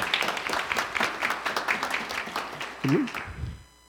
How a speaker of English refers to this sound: And so we're very thankful for all those who are helping us to prepare our building for worship. Let them know you appreciate them. And maybe we'll give them a round of applause.